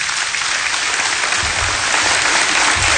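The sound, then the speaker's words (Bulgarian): A large audience claps steadily for former Bulgarian president Georgi Parvanov, chairman of the ABV political party, a dense, sustained wash of applause that stays loud and even for the whole stretch with no voices on top. “Вашите аплодисменти за президента Георги Първанов, председател на политическа партия АБВ.”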